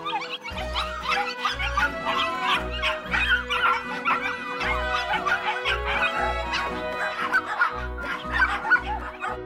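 dogs barking

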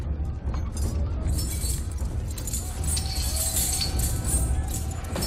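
keys jangling

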